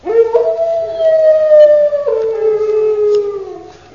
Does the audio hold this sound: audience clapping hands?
no